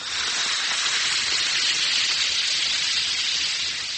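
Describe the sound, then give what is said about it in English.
Steady fizzing of an Alka-Seltzer tablet dissolving in a glass of water, a dense bright crackle of tiny bubbles that holds constant for several seconds with no voices. “Yes, that's the mighty welcome sound of a glass of sparkling Alka-Seltzer, about to bring somebody prompt and effective relief.”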